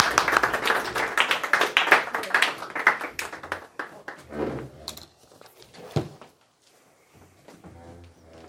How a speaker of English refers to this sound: Big round of applause, please,